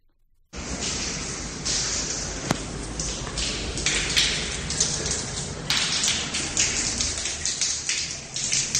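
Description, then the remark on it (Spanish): Water pours and splashes steadily down a wall in the changing rooms of athletics tracks, in a loud, continuous hiss, with scattered taps and drips breaking through the rushing flow. No voices are heard. “Esto que estáis escuchando es agua cayendo a chorro por una pared.”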